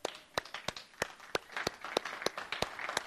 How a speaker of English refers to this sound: And to help us really understand this, we need to welcome the Edge Church tug of war team. Let's give these guys a round of applause right now.